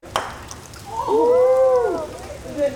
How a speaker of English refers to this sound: cheers on a rainy Saturday morning as his sister hits a croquet ball at the state capitol building in Juneau. His family set up the game in a bit of an unconventional spot.